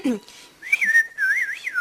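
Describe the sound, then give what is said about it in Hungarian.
Someone whistles a short, wavering melody, the clear pure tone sliding up and down for a second or so after a brief vocal sound at the start. “Gondolok valamire, aztán elkezdek füttyörészni, valahogy így.”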